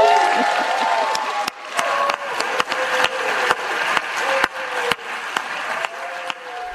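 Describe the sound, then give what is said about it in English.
A crowd cheers and applauds steadily, with sharp claps and whoops over a dense roar of voices that stays loud throughout, in the Senate after Vice President Kamala Harris casts the deciding vote and the bill is passed. “the cheering and cackling of Kamala Harris.”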